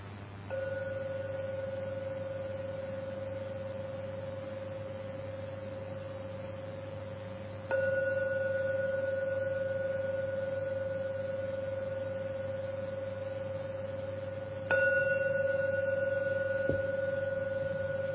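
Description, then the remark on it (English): A meditation gong is struck three times to end a meditation, about seven seconds apart. Each strike swells into a steady, pure ringing tone that sustains and slowly fades before the next, with no voices. “Now we're going to ring the gong 3 times to end the meditation.”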